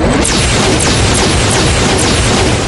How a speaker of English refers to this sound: Slivers and shards of razor-sharp crystal peeled away as the incredibly hard stone began to shatter under the force of the beams. Finally, the oval door split right up the middle.